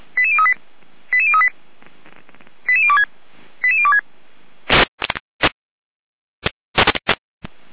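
Fire brigade alerting tones from the Gera dispatch, alerting the Weidesberger fire brigade to an assistance call: four short bursts of rapid, stepped electronic beeps at mid-high pitch, evenly spaced, followed by several harsh crackling bursts of radio static.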